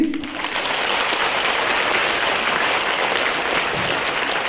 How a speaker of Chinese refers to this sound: 观世音菩萨把我们全部称为佛呀，你们鼓掌